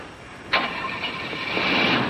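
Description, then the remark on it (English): A car engine with part of its distributor removed cranks over, trying to start, kicking in abruptly after a brief quiet moment and grinding on steadily, growing slightly louder and rougher toward the end, with no voices. “You hear that? They must have the car keys.”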